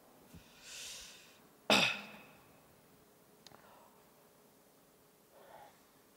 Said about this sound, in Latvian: O, kā viens klepo.